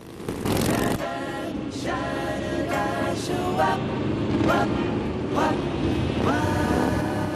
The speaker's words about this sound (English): As Philo passes through an intersection, the biker gang, headlights on, see him drive past. The biker gang head off in Philo's direction.